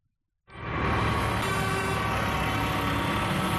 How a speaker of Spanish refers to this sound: Sonido de hoy mismo, camiones sin carga, solo la cabina, la mayoría, aunque también hemos visto tractores.